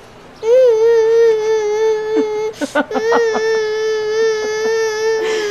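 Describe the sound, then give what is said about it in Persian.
A child cries in a loud, sustained wail, the high-pitched cry holding steady for several seconds with brief catches and sobbing breaks partway through. “اب ندار، گریه نکن، لباساتو عوض میکنم.”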